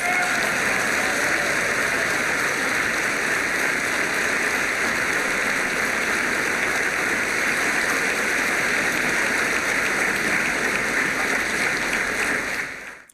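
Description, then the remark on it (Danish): A whole hall of people at an annual meeting in Denmark applauds steadily for about thirteen seconds after a speech by Marlene Harpsøe, a dense, continuous wash of clapping with no voices, fading out at the very end. “13 sekunder klappede de.”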